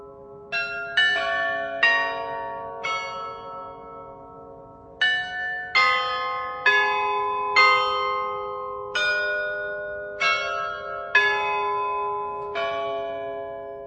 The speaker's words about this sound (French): La Lorette de Prague ne serait pas ce qu'elle est sans son carillon unique créé à la fin du XVIIe siècle.